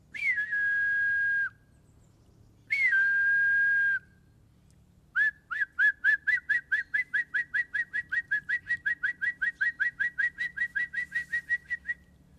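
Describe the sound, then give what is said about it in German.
A man in a boat on a narrow canal in the Danube Delta whistles to call birds: two long steady whistled notes, then a fast run of about thirty short rhythmic chirping whistles, clear with no speech. “ruft ihnen also, den Vögeln.”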